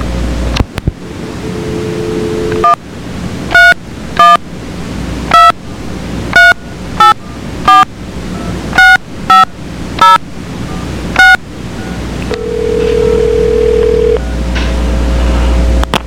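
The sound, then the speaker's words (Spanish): A quick run of about a dozen bright telephone keypad tones, evenly paced, over a steady hiss of line noise, followed by a sustained lower tone as the call connects, while a caller puts another person onto the line. “Un segundito en la línea nada más, que voy a poner a José Antonio”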